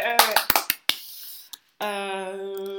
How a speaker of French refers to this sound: Mais C'est émouvant. Ouais. On applaudit parce que nous, ça nous émeut.